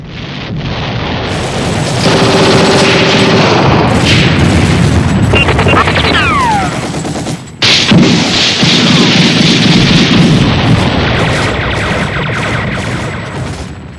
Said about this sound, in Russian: Засада, бой, обстрел, взрыв.